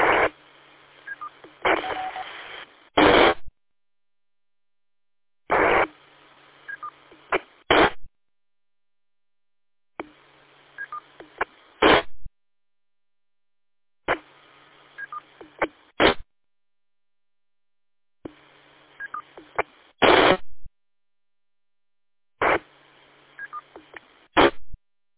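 Tones from a store-and-forward radio repeater: six or seven short, narrowband bursts of beeping, dial-like tones and hiss, each lasting a couple of seconds and separated by clean silences.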